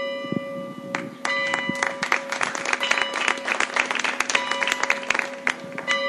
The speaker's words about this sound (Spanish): Únicamente el sonido de las campanas del reloj de la Plaza Hoyense y los aplausos rompían el silencio.